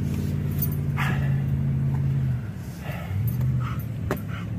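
dog barking and whimpering

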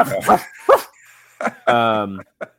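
dogs barking

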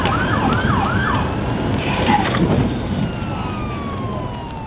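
emergency vehicle sirens howling

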